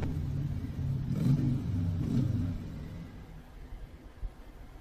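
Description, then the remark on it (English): A car engine rumbles and revs with a couple of low surges while driving, then settles into a quieter hum for the last couple of seconds. No one speaks. “Good thing Mary Lou keeps her waistline so trim. Barely drinks any gas.”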